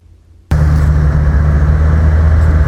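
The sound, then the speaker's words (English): After a brief silence, a van's engine hum and road rumble cut in abruptly and hold steady, a loud low drone heard from inside the moving van a mile outside Lothian, with no voices. “We're in the van now.”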